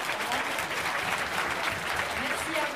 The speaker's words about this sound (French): On peut les applaudir, hein, bien fort.